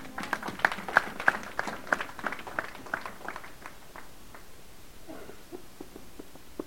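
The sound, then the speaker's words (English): An audience gives the Lord a hand clap, a quick, uneven burst of sharp hand claps that gradually thin out and fade, with a few scattered claps lingering at the end. “Give the Lord a hand clap, because I know that's true.”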